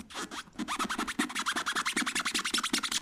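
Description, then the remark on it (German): Sneakers rub rapidly back and forth across a floor in a sports class exercise imitating cricket chirping, making a steady train of fairly loud scratchy squeaks at an even rhythm, with no voices. “bei Sport haben wir das so gemacht, da hatten wir Turnschuhe an, und dann haben wir mit den Füßen so hin und her gerieben, so.”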